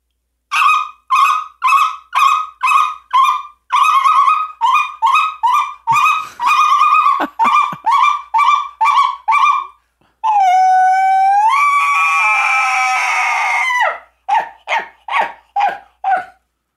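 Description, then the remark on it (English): Rapid, high-pitched yelping speckle-belly goose calls repeat in a quick rhythm, then a long elk bugle rises into a shrill whistle before a final burst of goose calls, all played on game calls. “Are you want a speckle belly or you want an elk? I want a speckle belly and an elk.”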